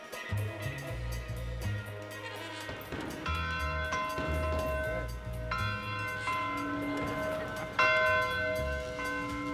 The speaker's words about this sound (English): Your bell, I take it. That bell rings every morning at 4:30, and every fighter in those two bunkhouses must be down here dressed by 5 red run. It rings again at 8 o'clock for breakfast and 5 o'clock for dinner.